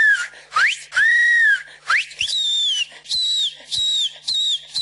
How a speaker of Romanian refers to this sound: Caravana de Crăciun este însoțită de o Moș Crăciun mai puțin obișnuit, îmbrăcat în straie naționale. Moșul știe și să fluiere, nu doar să ofere daruri.